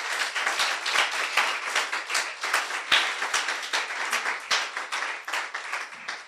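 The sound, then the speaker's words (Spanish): A Christian audience applauds the Lord together, a steady wash of many hands clapping with sharper individual claps cutting through, sustained for several seconds without any speech. “Hoy, dale un aplauso al Señor.”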